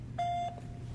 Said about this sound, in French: La personne que vous essayez de joindre n'est pas disponible. Veuillez laisser votre message après le bip.